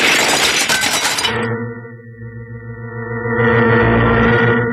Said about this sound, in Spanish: mientras haciendo que los vidrios salten a pedazos y echando abajo algunos fardos.